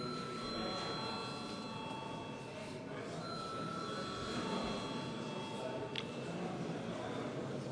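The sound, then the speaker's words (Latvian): An electric voting bell in the Saeima, the Latvian parliament, rings continuously for several seconds before a vote, a steady, buzzing metallic tone with bright overtones, over a low murmur of background noise. “Lūdzu zvanu!”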